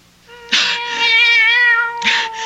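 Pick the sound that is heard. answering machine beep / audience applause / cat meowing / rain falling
cat meowing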